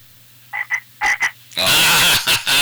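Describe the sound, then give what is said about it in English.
An imitated frog call: a pair of short croaks, then two louder ones, building into a long, loud, raspy croaking burst with a few more pulses at the end. No talking. “Oh, just a typical man-made frog call.”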